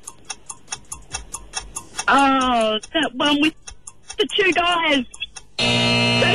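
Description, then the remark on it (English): A five-second countdown timer for a quiz question ticks steadily at a quick, even pace. Voices briefly talk over the middle, and the countdown ends in a loud, sustained buzzer. “All right, don't forget, five-second timer, don't let that get in your head.”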